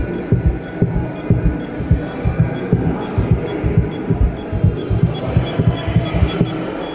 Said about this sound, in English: And then a little model of Le Corbusier's Cabanon, which is the cabin where he died. With a heartbeat inside.